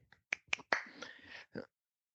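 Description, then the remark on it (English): A few sharp, crisp claps in an uneven rhythm, followed by a brief, brighter burst of noise and one last clap, all fairly quiet with no talking. “Yeah, and I have to give big clap. Round of applause there.”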